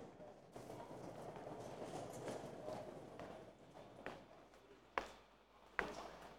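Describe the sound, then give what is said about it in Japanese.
Busy train station ambience at Tokyo Station, Japan, as people enter the station, with a steady crowd murmur, footsteps scattered throughout and a few sharp, loud clacks near the end, with people talking faintly in the background. “はい、皆さん駅に入りましょう。”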